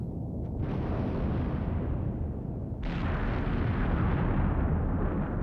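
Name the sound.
explosion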